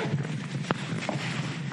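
The zipper of a bag being opened to take out an unfinished woodwork piece, heard as a raspy, hissing texture with two sharp clicks standing out partway through. Short and moderately quiet, with no talking.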